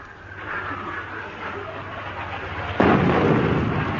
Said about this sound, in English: Oi, oi! Here comes another one! Everybody down! Good heavens, they must think we're off the ship. They're definitely shelling us.